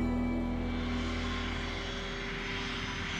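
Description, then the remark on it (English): Jet engines of a Boeing 727-100 airliner, Flight 305 (FAA registration N467US), drone in a loud, steady roar with a sustained whine layered over the rumble as the crew readies the plane for takeoff, unbroken for the whole stretch, with no voices. “In the cockpit, Captain William Scott and his co-pilot and flight engineer ready the plane for takeoff.”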